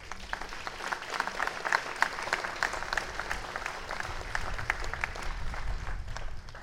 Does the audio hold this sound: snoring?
no